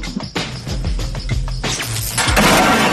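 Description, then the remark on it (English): A car crusher crushes a small car, loud metal crunching and glass shattering in a rapid series of harsh bursts over a deep, steady rumble, with no voices. “Now, as you know, you've got 10 hours to get your machines built from the time that our mighty car crusher crushes that little car.”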